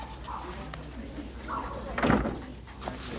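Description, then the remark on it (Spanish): A door swings shut with one solid thud partway through, following soft rustling movement as Doctor Barnick leaves the room putting on a robe and closes the door, all over a steady low background hum. “Sale de la habitación poniéndose una bata y cierra la puerta.”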